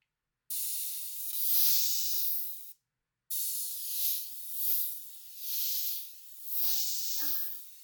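Airy hiss of carbonated mist spraying onto facial skin along the lymph lines, from chin, mouth sides and nose sides toward the ears: one long burst, a brief pause, then a steady spray that swells and eases in four gentle waves. No one speaks.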